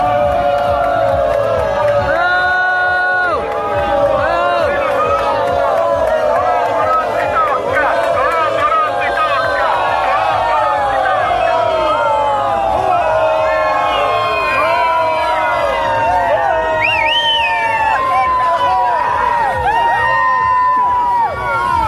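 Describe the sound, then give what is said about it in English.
A large crowd boos loudly at a parade as the mayor marches with the sanitation and fire departments, a sustained chorus of overlapping jeering voices rising and falling without pause, with occasional higher shouts and whoops cutting through. “It was all boos. It was a chorus of boos, the Bronx jeer.”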